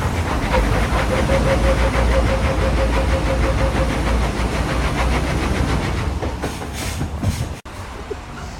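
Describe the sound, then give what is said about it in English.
A heavy lorry engine labors loudly as it struggles for traction to climb a hill on a wet road after stopping at traffic lights, a deep sustained roar with a rapid rhythmic pulsing and a faint whine, easing off and briefly cutting out near the end. “But what we've actually been seeing, particularly in wet weather, is lorries struggling to gain enough traction to get up the hill. We've got some audio here of one of them.”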